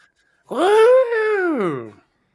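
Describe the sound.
A voice imitates a sing-song growl: one sustained, tuneful groan lasting about a second and a half, its pitch rising slightly and then sliding down before it stops, fairly loud and alone.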